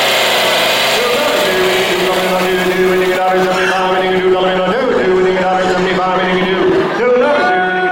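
chainsaw carving wood

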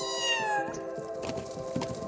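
kitten crying

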